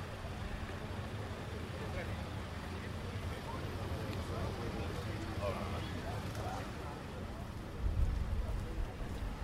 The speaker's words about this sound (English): So, Camp Nou, it's all raining. What have they done to Spain while I've been away?